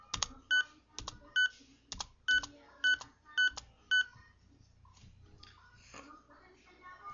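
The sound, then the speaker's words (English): About seven short electronic delete alert beeps, played when text is deleted, sound in a quick, steady rhythm, each paired with a sharp key click, fairly loud, before fading into quiet background noise. “This means that when you delete a like a thing text, you hear the beep, which I'll show you later.”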